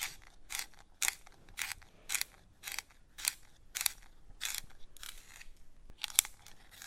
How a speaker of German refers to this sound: hat den Bleistift angespitzt